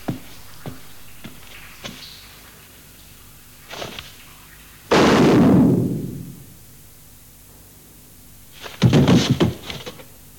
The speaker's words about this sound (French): Bon, donc là, dans cette scène du jugement, on voit de nouveau ancré à l'image ce bruit dont je vous avais parlé au début en disant c'est l'armement des fusils des fusilleurs. C'était prémonitoire au début, ça arrive à cette scène-là,